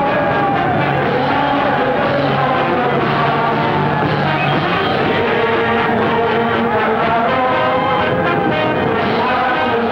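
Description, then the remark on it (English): A large, enthusiastic crowd waits at a troop ship's berth to welcome the men back, cheering steadily, with overlapping shouts and whoops blending into a loud, dense roar that continues without a break throughout. “An enthusiastic crowd is waiting to welcome the men back.”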